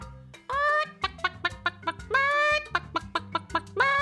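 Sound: hen clucking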